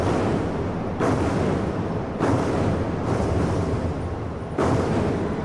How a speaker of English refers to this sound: It started with a performance by 2008 drummers banging and chanting in unison in China's Bird's Nest National Stadium.